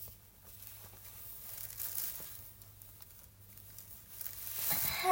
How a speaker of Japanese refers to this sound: ビニール袋とティッシュ。